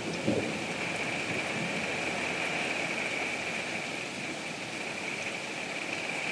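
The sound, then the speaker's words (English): Steady heavy rain hisses with gusting wind, while a low rumble of distant thunder rolls underneath throughout. No voices are present. “I hear thunder in the distance, but I don't hear a whole lot of loud stuff near us now. Mostly just rain, lots of wind.”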